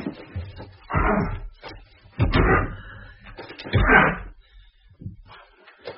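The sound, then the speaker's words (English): Three heavy, dull thuds land a second or so apart as a stuck front door is rammed with a shoulder, with fainter knocks and rattles between. The impacts are loud, and no one speaks. “Shoulder it with me.”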